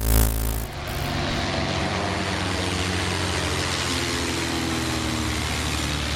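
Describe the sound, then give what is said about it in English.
A loud jet airplane roars as it flies through the Gateway Arch, a sharp burst at the start settling into a steady, broad engine rumble with deep droning tones that holds for several seconds, no voices. “When you get to 10 million miles, they let you fly any jet you want, through any aperture you want.”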